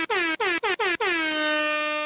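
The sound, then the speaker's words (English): A loud air horn blares in four quick staccato blasts, then holds one long sustained blare to the end, bright and brassy with no voices. “I'll do the air horns now.”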